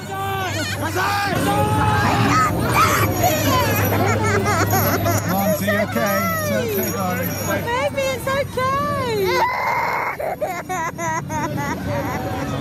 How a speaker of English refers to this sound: There are crying children, including my own. That's a lot of screaming and terror for a Santa parade.